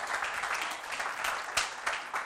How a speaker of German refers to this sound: Vielleicht können wir einfach mal kurz einen Applaus geben. Danke.